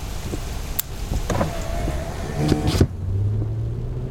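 Inside a moving car: a steady low road rumble with a few clicks and a brief motorized whir, then the cabin settles into a smoother, quieter engine hum. No one speaks.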